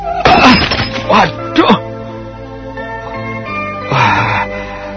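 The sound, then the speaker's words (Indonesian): A beautiful, expensive flower vase, accidentally bumped, topples and shatters in a few sharp, loud crashes, followed by a second burst of breaking about two seconds later, with a steady musical tone humming underneath. “Tanpa terasa dia menyenggol sebuah jambangan bunga yang indah dan mahal.”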